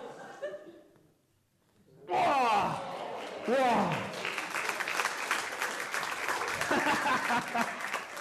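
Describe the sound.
A brief voice, a moment of quiet, then an audience bursts into loud, sustained applause with a few whoops and cheers, the dense clapping continuing steadily to the end.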